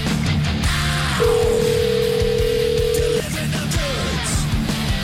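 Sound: telephone number being dialed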